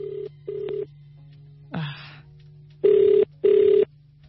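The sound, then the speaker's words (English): A phone line clicks and buzzes through short tones, then a ringback tone sounds twice in even bursts over a steady low hum, as an outgoing call to a possible competition winner waits to be answered. “So if your answer last week was C, then you might be the person I'm calling right now. So you have to make sure, you have to absolutely make sure that you pick up your phone.”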